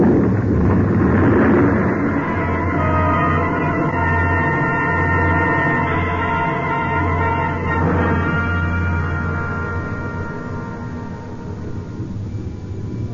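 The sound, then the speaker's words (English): A deep, continuous roar of an avalanche of snow and ice, loosened from a ridge by gunshots and sweeping down toward a valley, loud for several seconds before gradually easing off toward the end, with no voices. “It must have been the shots that loosened the snow and ice on the ridge above. I heard the sound, and I ran.”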